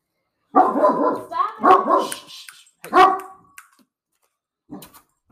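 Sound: dog barking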